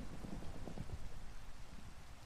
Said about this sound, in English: The storm seemed as though it would never relent. Rain fell in thick sheets, obscuring vision of anything beyond the scope of their shelter.